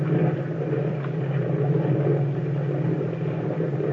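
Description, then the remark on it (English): A motorboat engine rumbles steadily, a deep continuous drone with a low hum and faint whirring overtones, holding at a constant level with no voices. “Boy, that boat has power. Look at the way we're traveling.”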